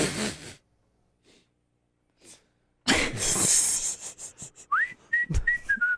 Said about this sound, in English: Yeah. Wow, you're whistling the stinger there.